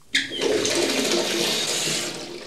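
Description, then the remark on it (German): Hot water gushes steadily into a bathtub from a running tap, a full rushing sound that starts abruptly and holds for a couple of seconds with no voices. “Ich glaube, noch ein paar Tropfen Heißes und man könnte sich einigen.”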